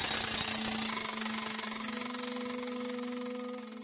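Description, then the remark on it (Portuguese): An alarm clock rings in someone's pocket with a steady, continuous electronic tone for about four seconds, slowly growing quieter toward the end. No one speaks. “O relógio desperta no bolso de Narbo.”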